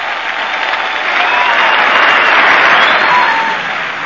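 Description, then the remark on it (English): Loud, sustained applause from a theatre audience at a curtain call, a dense wash of clapping that swells in the middle and tapers slightly toward the end, with no voices standing out. “Listen to them beating the daylights out of their hands there.”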